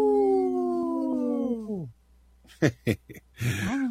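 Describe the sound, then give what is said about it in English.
A person gives a long, wavering wolf-like howl that slides downward and fades, followed by a pause, a few short sharp yips, and the start of another howl; the howling calls a dog over. “At first, I thought it was a little lame howl, but that was enough to bring it.”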